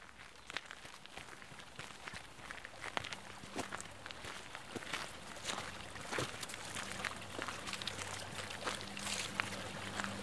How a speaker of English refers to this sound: And here we are standing by the Serpentine Lake, and you can hear in the background the sound of water coming from an underground spring, one of many in this particular area, of course, limestone, and therefore full of these underground springs.